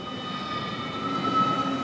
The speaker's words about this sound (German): Wir stehen auf dem Perron 2 vom Bahnhof Zug